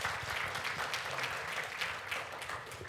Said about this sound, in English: Come on, bless the Lord with a hand clap of praise.